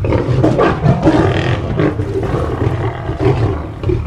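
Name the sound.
loud lion roar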